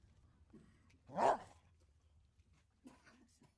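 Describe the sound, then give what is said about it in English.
Maddie, a border collie, lets out one sharp, loud bark, alone against a quiet background with only faint rustling and soft murmurs before and after, as she is taken outside to play at the Wistful Vista Dog Park. “Ladies and gentlemen, as we let Fibber and Molly take Maddie, the border collie, outside to play at the Wistful Vista Dog Park”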